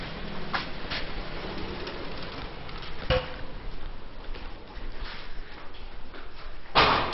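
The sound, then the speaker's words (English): Doors bang open and shut against a steady background rumble, with a sharp thud near the middle and a louder clatter at the end, fairly loud. “And we're at the doors.”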